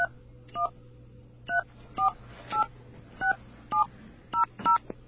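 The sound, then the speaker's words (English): A phone number being dialed to call Cablevision: about ten short touch-tone beeps, each a two-note chirp, tapped at an uneven pace over a faint steady low hum, with no one talking. “We're going to call their number.”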